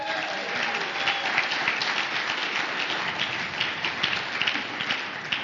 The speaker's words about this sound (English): Have you seen how joyful they are? I mean, give our inner circle a big hand clap.